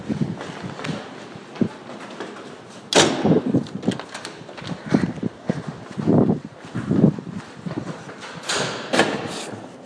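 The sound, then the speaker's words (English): Steady footsteps move down a long corridor and through two heavy doors, each door opening and swinging shut with a loud clunk or thud amid the walking, without any talking. “Another right, all the way through two doors.”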